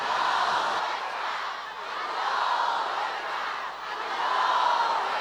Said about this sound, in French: Vous savez derrière moi là, vous avez une foule immense qui est avec vous, qui est avec votre combat pour la justice et la vérité et pour la souveraineté de l'Iran